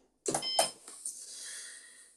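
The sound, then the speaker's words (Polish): The power button clicks as an espresso machine is switched on, followed by a single high electronic beep that fades out over about two seconds, with no talking. “Załączamy ekspres, przycisk. Będzie dźwięk. Power, będzie takie piknięcie.”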